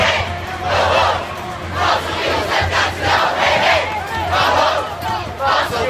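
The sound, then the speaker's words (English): A large crowd at the People's March for Action on Climate Change in the streets of New York roars and chants in loud, surging waves. Many voices shout together with steady rhythmic swells over a constant low rumble. “And a roar from the streets, a People's March for Action on Climate Change worldwide and here in New York.”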